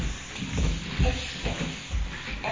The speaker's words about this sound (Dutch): De deur gaat steeds open.